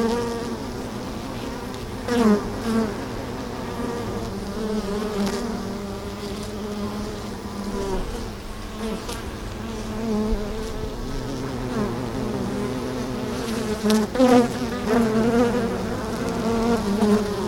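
Dense, steady buzzing of many honeybees as the recorder moves toward a beehive, a continuous droning hum with a few louder passes as individual bees fly near; one bee lands on a finger. No voices.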